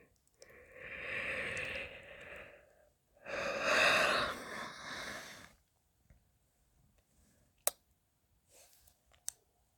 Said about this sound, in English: I am breathing.